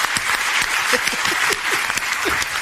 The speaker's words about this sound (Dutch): Geef ze even geweldig. Ik ben emotioneel. Ja. Applaus.